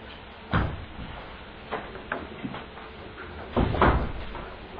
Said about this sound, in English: Right, are we ready to start them? Let's close the door, please.